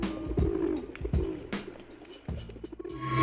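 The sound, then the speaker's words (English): Pigeons coo in soft, throaty, repeated bursts, several low rolling calls, with faint rustling and a bit of background noise toward the end. “We love pigeons at Wake and Bake.”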